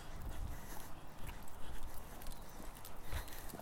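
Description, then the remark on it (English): A horse, the mare Babs, panting in fast, breathy huffs, a steady airy rush with occasional low thuds underneath. It's fairly soft overall, and no one speaks. “I hear her panting a little bit.”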